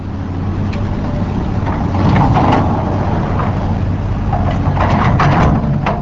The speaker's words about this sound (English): A few miles south of the Aransas Refuge, an earth mover loads dirt and rock into dump trucks. Development along the Gulf of Mexico is taking up land.